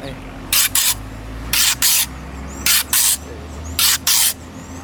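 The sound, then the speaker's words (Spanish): A voice imitates a chachalaca's morning call: four evenly spaced pairs of harsh, breathy, hissing bursts, each pair a rasping two-part cry, over a low steady hum. “La guacharaca en la mañana, ella hace esto.”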